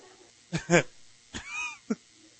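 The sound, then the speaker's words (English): A cat lets out a few short calls: a rough, harsh burst, then a rising-and-falling meow, and a brief final yelp, with quiet background between them and no talking. “Look at cat.”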